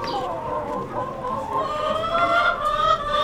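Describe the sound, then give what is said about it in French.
Hens clucking continuously, a busy overlapping chorus of chicken calls with steady loudness and no pauses. “Là, ce matin, j'en ai un nouveau, Mehdi, là, il est arrivé la semaine dernière, ça y est, je le mets aux poules.”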